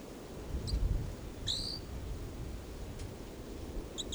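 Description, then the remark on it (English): A caged bird, number 425, chitters in a few short, high, scattered chirps, one slightly louder and brighter than the rest, over a steady low rumble of background noise. “That's a chitter of 425.”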